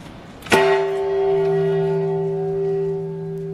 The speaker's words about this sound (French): La cloche du Jardin de la paix a retenti vendredi matin au siège de l'ONU pour la Journée internationale pour la paix.